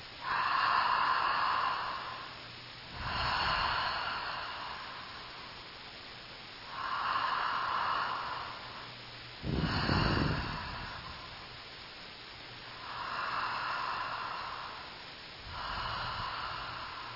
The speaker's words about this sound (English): So, if you'll sit easily, close your eyes, and begin to follow a deep breath pattern with me.